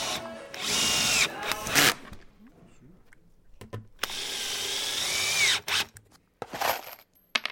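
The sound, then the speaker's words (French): A power saw bites into metal in two long, loud bursts of harsh, high grinding, separated by a pause with a few short clanks and clicks. A young woman in a tank top, wearing ear defenders, saws the metal in a second-basement workshop, throwing sprays of sparks. “Près de toi, au deuxième sous-sol, une jeune femme en débardeur et caterpillar scie du métal.”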